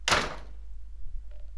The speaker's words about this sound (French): Il se met alors à bouder, à crier et claque la porte de sa chambre très fort.